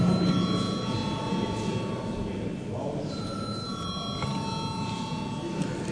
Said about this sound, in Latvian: Saskaņā ar Saeimas kārtības rulis mums jābalso par likumprojektu atzīšanu par steidzamu. Lūdzu zvanu.